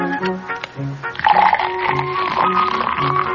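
Budweiser beer pours into a glass and foams up, a steady fizzing gush that swells after a second and continues to the end, with soft music playing underneath.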